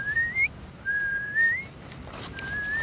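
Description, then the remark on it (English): On a beach, a person whistles an imitation of a piping plover call: three clear, fairly high notes, each sliding upward in pitch, the middle one longest, over a steady low rumbling background noise. “I thought I just heard a peeplow, which is a piping plover call. It sounded like this.”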